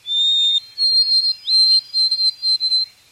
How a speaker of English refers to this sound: The long, clear whistles of the white-throated sparrow. Ornithologist Roger Torrey Peterson described these whistles as, "Oh, sweet Canada."